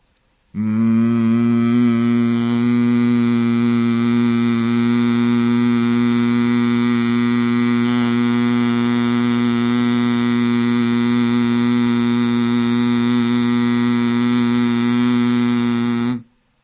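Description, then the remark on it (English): A person hums one long, steady, buzzing note imitating a bumblebee, as part of a relaxation exercise combining sound and breath. The drone holds evenly for about fifteen seconds with no talking, then stops abruptly. “I will demonstrate the humming sound of a bumblebee.”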